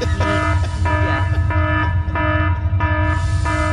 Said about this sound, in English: can we get a sound effect of some type of like an alarm?